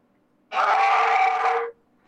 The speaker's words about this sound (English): What the hell is that? Werewolf, mate. That's werewolf, yeah. Think you've never heard a real werewolf before?